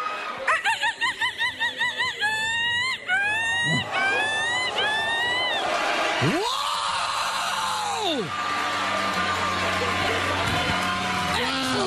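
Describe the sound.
A woman imitates a seagull: a quick run of shrill, laughing cries, then several longer rising squawks, loud. A crowd reacts afterward with an exclamation and noisy cheering.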